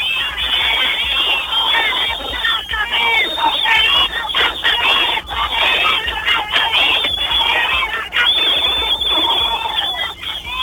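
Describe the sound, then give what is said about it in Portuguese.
A crowd of protesters demonstrating over dust shouts and chants together, loud, in a dense continuous roar of many voices that barely lets up for about ten seconds. “Muito bem, cadê o grito dessa turma aqui?”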